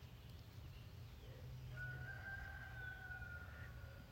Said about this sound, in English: Roosters in the background.